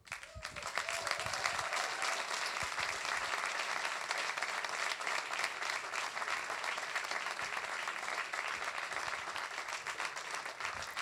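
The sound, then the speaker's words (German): Sustained audience applause for performers at an evening stage event, a dense, steady wash of many hands clapping that swells in within the first second and holds at an even, fairly loud level for about ten seconds. “Wir finden das toll, dass so viele den Weg heute Abend hierher gefunden haben und uns unterstützt haben und Applaus gespendet haben.”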